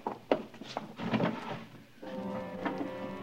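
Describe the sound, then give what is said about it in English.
A wooden drawer holding a single black glove scrapes and rattles as it is pulled open, a fairly quiet sliding rub with a few knocks, then a steadier grinding slide toward the end. “Just one black glove in the drawer.”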